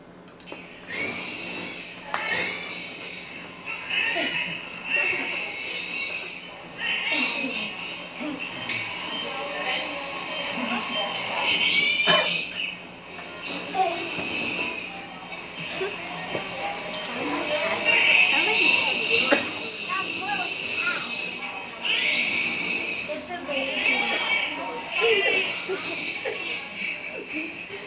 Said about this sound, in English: Newborn baby.